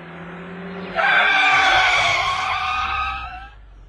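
A car engine rumbles low, then a loud, sustained tyre-and-brake screech rings out for about two and a half seconds before fading as the vehicle stops. No voices.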